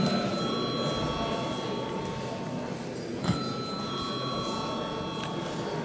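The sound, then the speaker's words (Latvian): A steady electric bell rings continuously through the whole stretch in a parliament chamber, called before a vote on a sports law bill in first reading, a sustained bright metallic tone with a low murmur of background room noise beneath it. “Paldies, lūdzu zvanu.”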